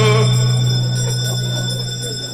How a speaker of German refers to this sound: Wir läuten die Glocke zur letzten Runde. Letzte Runde.